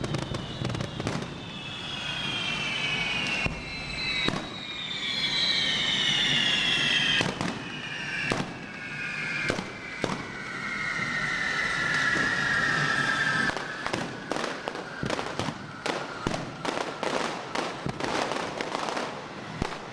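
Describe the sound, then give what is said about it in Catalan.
Fireworks going off in a town square in Tarragona during the Santa Tecla festival as the fire groups are lit and golden sparks fall, with applause in the square: a dense, irregular run of sharp bangs and crackles, with shrill whistling tones gliding slowly downward through much of the burst. “Encenen els grups de foc en aquest moment i cau l'or i pell.”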